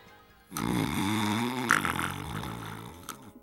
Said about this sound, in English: Snoring? Hey, you in there, wake up. It never impresses the head of ranch security when a new guy falls asleep in the middle of an orientation session.